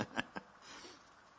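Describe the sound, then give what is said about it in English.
Soft, steady rain hisses faintly across the whole moment, following two brief sharp knocks near the start; no voices are heard. “And here comes the rain.”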